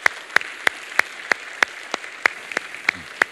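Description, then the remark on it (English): A church audience applauds its standing volunteers, with crisp, steady claps landing in a regular beat, roughly three per second, over a softer wash of clapping from the crowd. No one speaks. “Let's give these folks a big round of applause.”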